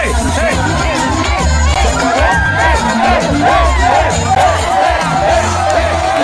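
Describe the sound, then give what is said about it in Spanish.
A large crowd shouts and cheers continuously as everyone starts dancing after a fight, a dense, loud wall of overlapping voices with excited whoops rising above the din throughout. “Y luego todos empezaron a bailar. Y todos empiezan a gritar.”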